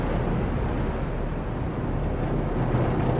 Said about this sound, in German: Mühsam kämpft die Saramatje gegen die Wellen an. Vor 1,5 Stunden war das Boot aus Cuxhaven ausgelaufen. Nun versucht der Kapitän an einem stählernen Monstrum mitten in der Nordsee anzulegen.